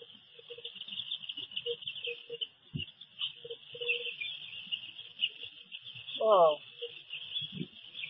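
A steady, high-pitched chorus of birds chirping runs throughout, with soft low cooing notes scattered beneath and one louder, rising call near the end.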